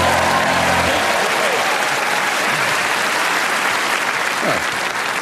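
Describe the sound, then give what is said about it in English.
Steady, loud applause from an audience after a song, a dense wash of many hands clapping continuously for several seconds, with a brief low hum at the start. “It was one clap to the rhythm of another.”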